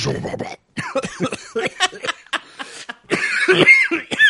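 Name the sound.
coughing into the microphone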